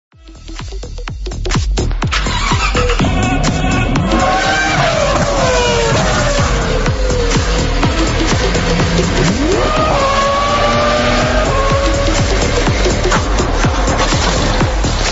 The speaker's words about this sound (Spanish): Ya los motores, eso indica que es tiempo para nuestro espacio del motor